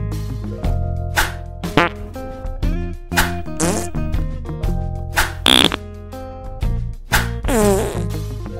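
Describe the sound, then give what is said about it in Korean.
A rapid string of farts, about a dozen sputtering, buzzy bursts in quick succession, loud with a few longer trills, and no voices. “그렇게 동생에게 연속 파렌타의 방귀를 먹이자 동생은 그대로 기절해버렸어.”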